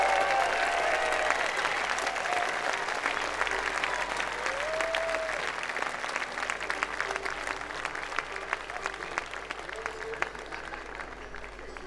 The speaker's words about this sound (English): And by the way, if this festival looks like everything runs great, it's because everybody does their job, volunteers and employees alike. So make their life easy. Give them a nice round of applause because they work awful hard.